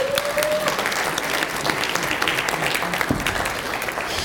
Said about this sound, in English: give me a high five and give this boy a round of applause.